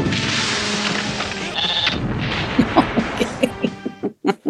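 In a scene from a low-budget B-movie gore film, a dense, roaring rush of noise gives way to a run of short, quavering sheep bleats, repeated several times in quick succession, growing louder toward the end.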